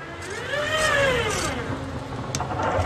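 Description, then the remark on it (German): A tram door closing: a smooth mechanical whine that rises and falls in pitch, then a brief clunk near the end, over a steady low rumble. “Das ist tatsächlich eine Straßenbahntür im Vorgastraum.”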